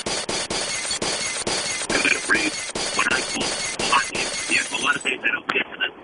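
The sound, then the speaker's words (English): Glass shatters and crunches in a long, loud cascade of sharp breaking bursts, with voices overlapping the debris toward the end. “Only the glass really could go through the radio.”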